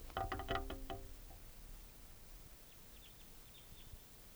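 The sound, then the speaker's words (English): A wild bird calls in a few faint, high, thin chirps spaced over a couple of seconds, following a brief harmonic tonal sound at the start, with soft background hiss throughout. Recorded on August 5th at 8:12 p.m., just before sundown. “regarding Wild Type 2 bird coming in.”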